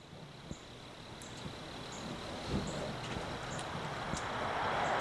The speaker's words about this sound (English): Just north of Gravette, along Highway 59, the sounds of cars flying by echo through the valley.